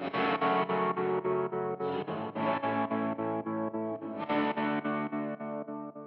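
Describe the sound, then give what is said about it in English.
Electric guitar through an old amp's optical tremolo (photo resistor and blinking light bulb), with intensity raised and reverb in studio mode, mix turned way up. Chords throb with a steady tremolo, pulsing about three times a second, washed in reverb. Three sustained phrases ring out clearly with no voices. “Do a little more intensity and then put the reverb in the studio mode and then turn the mix way up.”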